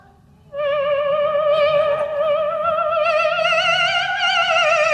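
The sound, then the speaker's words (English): An electronic instrument produces a thin, buzzing whine in imitation of a mosquito, holding one wavering high note that slowly creeps upward for several seconds, steady and fairly loud, with no talking. “Mosquito.”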